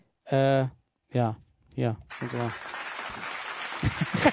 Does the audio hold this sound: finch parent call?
no